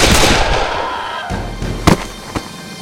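Three sharp gunshot cracks from a .44 Colt revolver fired at a man in an alley go off in quick succession, about half a second apart. They follow the fading roar of an earlier loud blast. No voices are heard.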